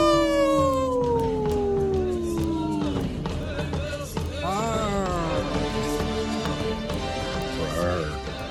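A long, sliding wolf howl opens, falling slowly in pitch, followed by several wavering overlapping howls over a dense, steady background of percussive taps and other noise.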